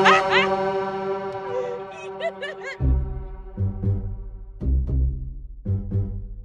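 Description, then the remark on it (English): A loud, sustained semi-truck air horn blares for a few seconds, honked by the driver after being motioned to, then gives way to bursts of excited laughter and voices. “I had just motioned to a semi-truck driver to honk his horn. And he did.”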